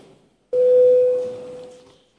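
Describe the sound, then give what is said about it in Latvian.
A Latvian parliament voting bell sounds once before a vote on amendments to the Animal Protection Law in second reading: a sudden, steady mid-pitched electronic tone that holds for about a second and a half before fading away, with no one speaking. “Paldies, lūdzu zvanu, balsosim par likumprojektu grozījumu dzīvnieku aizsardzības likumā atbalstīšanu otrajā lasījumā.”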